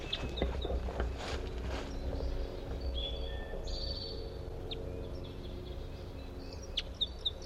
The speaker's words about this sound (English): I'm gonna try to record a different bird. I think there's a male. The male whose female is caught is over in this other direction here.